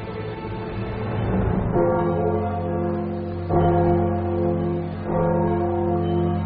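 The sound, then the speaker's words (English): Large, deep bells toll loudly to signal surrender, with a fresh strike about every one and a half seconds. Each strike rings into a long, overlapping hum. No one speaks. “Bells to mean surrender.”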